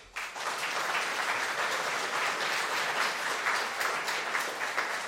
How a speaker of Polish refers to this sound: I ci śmiałkowie dali radę, wszystkie 100 okrążeń zrobili, jechali do mety pomimo wielkiego wyczerpania, zmęczenia i myślę, że należą im się teraz brawa.